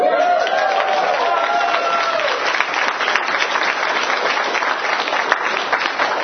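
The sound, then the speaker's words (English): Steady, dense applause from a large audience for a speaker on stage fills the room, loud and sustained throughout, with a few voices rising briefly over the clapping near the start. “Now you clap, but can you feel the haters in the room?”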